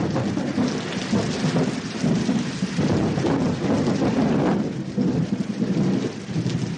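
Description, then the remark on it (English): Low thunder rolls and rumbles continuously through a steady wash of heavy rain, dropping through clouds that spread out for miles, the storm sounding broad, with no voices present. “But when the weather is bad, there's not a lot to do except listen to the thunder dropping 40,000 feet through clouds that spread out for miles.”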